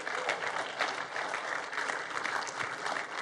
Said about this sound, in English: But hey, if this is the first time here, we just want to welcome you. We want to welcome you, and we do that around here by clapping for you, to honor you.